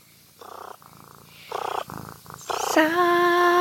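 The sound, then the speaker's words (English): A cat purrs in several rough, pulsing bursts, each separated by brief pauses, before a clear sustained sung note starts up over the purring near the end. “Hey guys, to get our warm, happy Christmas thoughts started off right, my cat and I are going to sing you a song.”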